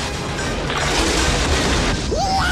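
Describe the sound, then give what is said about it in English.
A giant bush vehicle, half truck and half tank with a cage on its truck bed, rumbles loudly and continuously while knocking down trees and shrubs, a deep booming roar with splintering crashes, then a brief rising whine near the end. “Coming towards them, knocking down trees and shrubs as it rumbles forward, is a giant bush vehicle, a bushwhacker, half truck, half tank, with a cage on its truck bed.”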